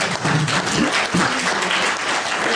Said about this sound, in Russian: Ему аплодисменты.